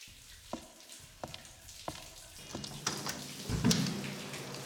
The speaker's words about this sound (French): Je suis sous la douche.